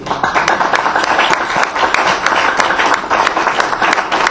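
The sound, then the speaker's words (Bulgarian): An audience claps steadily throughout, a dense, even patter of many hands with no pauses, sustained at a fairly loud level for several seconds. “ако отвоите ръкоплясканията, ще считам избора за реализиран.”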